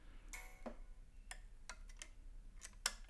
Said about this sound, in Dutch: En dan zit er een armpje aan de rechterarm en die tikt met de maat mee. En aan de achterkant zit er een mechanisme, dat zit aangesloten op een orgelboek. En de arm die tikt mee met de maat.